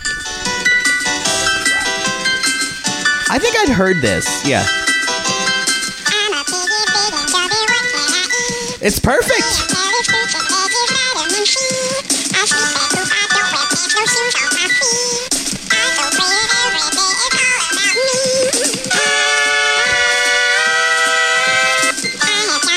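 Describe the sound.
A bouncy novelty tune plays loudly and continuously with bright, high melodic lines, while a couple of people briefly talk over the music.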